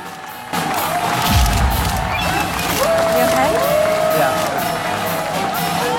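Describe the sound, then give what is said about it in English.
A crowd of Marines at a military air base applauds and cheers loudly for several seconds, with voices talking through the noise and quick, scattered clicks of a horde of photographers' camera shutters cutting in. “Marines applaud him and a horde of photographers snap away incessantly.”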